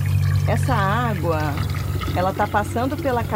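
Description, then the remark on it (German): Water being scooped and poured as a biologist takes a water sample from a sewage channel that flows into a lake beside the city of Niterói; a steady liquid splash, partly masked by a voice talking over it throughout. “Sie ist Biologin und nimmt gerade eine Wasserprobe aus einem der Abwasserkanäle, die in den See münden.”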